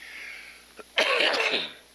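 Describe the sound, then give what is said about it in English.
A short, harsh cough bursts out after a faint catch in the throat, then trails off into quiet background hiss. No one speaks. “When I start coughing, it gets ugly.”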